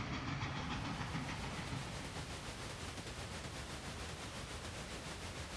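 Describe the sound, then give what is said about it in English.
Train wheels click steadily over the rail joints in a quick, regular rhythm, layered over a constant loud rolling rumble and hiss of a moving railcar, with no voices. “smelling the smoke and feeling the heat of the train's firebox, hearing the sound of the wheels clicking on the tracks below.”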